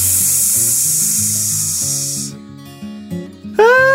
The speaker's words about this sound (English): Out of the bush jumped a goose. Hiss, hiss, hiss.